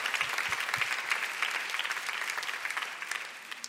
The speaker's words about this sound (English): Let's give the Lord a big clap. Hallelujah.